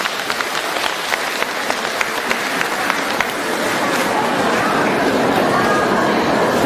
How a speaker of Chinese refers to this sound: 让我们用掌声感谢慈悲的卢军宏台长。